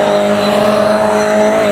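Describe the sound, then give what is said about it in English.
A race car roars loudly and continuously, its engine drone mixed with a steady high-pitched tire squeal as it comes out of a corner sideways over the curbs at VIR, with no voices. “Coming out sideways.”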